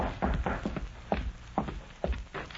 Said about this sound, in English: Then, one evening, long after darkness had fallen, the sheriff heard a soft rap on the door of his home.